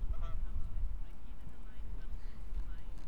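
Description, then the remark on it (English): A goose-like bird gives a couple of brief nasal honks early on, over a steady low rumble of outdoor background noise with faint voices. “Did you record that bird?”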